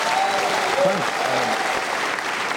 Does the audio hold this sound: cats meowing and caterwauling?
no